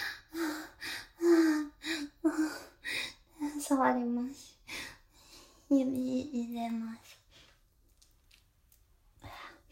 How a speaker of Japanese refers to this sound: 喘ぎ声聞こえちゃうかも。聞こえちゃったらどうしよう。